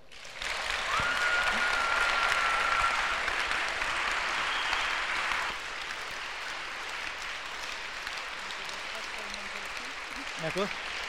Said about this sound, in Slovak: Tak teraz by sme sa vám chceli jedným obrovským veľkým potleskom poďakovať za to, že ste prišli medzi nás.